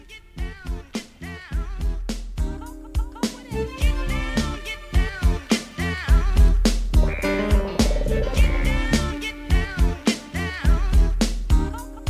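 A hip-hop instrumental intro plays at full volume, with a steady punchy drum beat, deep bass and layered melodic samples, building slightly midway, with no voices.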